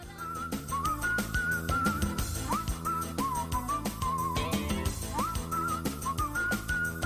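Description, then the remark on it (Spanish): A whistled melody carries an instrumental tune over a steady rhythmic backing of bass and percussion, the whistling bright, sliding between notes and continuous throughout, with no voices. “A base de silbidos.”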